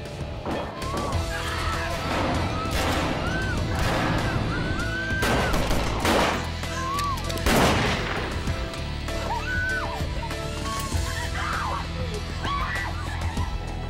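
Several sharp gunshots ring out inside an airplane cabin during a hijacking, irregularly spaced over a steady droning hum, with frantic shouting and raised voices throughout. The shots are fired at an air marshal, and 27 shots in total pierce the aircraft's fuselage.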